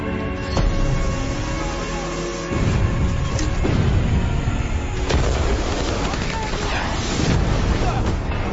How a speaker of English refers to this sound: Shots fired! Take the hoses! This is not a drill. This is a real world situation.